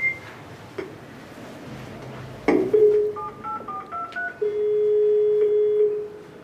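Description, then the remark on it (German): An intercom doorbell being rung again: a thump, then a quick run of short stepped electronic beeps like keypad tones, followed by a long steady buzzing ring tone lasting over a second. “Jetzt müssen wir wieder klingeln.”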